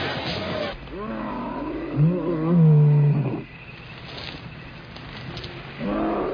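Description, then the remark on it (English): A bear gives a deep, rumbling roar lasting a few seconds, its growl rising and falling in pitch before fading. Quieter background noise follows, with a brief voice-like sound near the end. “Look at those bears.”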